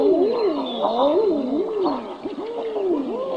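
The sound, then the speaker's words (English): Male common eider mating calls: a series of loud, wavering, dove-like cooing moans rising and falling in pitch, overlapping one another with a steady soft background hiss. “This is the mating call of the male common eider.”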